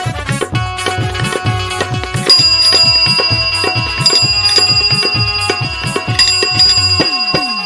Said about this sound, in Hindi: आवे ले ट्रीन ट्रीन घंटी बजा के। अच्छा? सर से निकाल जाले पैडिल दबा के।